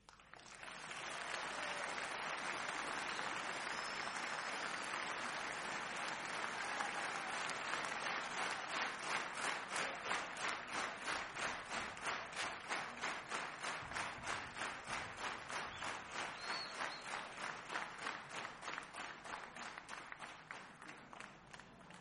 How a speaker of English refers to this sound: Thank you very much. You're very kind. I like that we, a lot of audiences, including yourself and your clap, they all clap together like that. I don't know what to do sometimes, you know, so clap along with you. I think it's great, don't change.